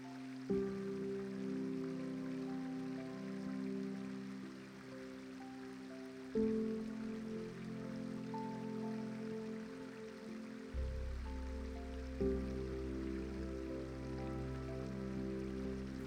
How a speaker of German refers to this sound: Du hörst das beruhigende Geräusch des Wassers. Es fließt über Steine und durch kleine Vertiefungen. Ein stetes Plätschern und Murmeln, das dich tief entspannt.